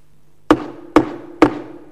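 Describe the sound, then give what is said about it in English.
Three sharp hammer knocks land at a steady, even pace, each a loud strike with a brief ringing decay over a faint low hum. No one speaks. “he'd start knocking away. And he'd start tapping different things, and he began to make different things.”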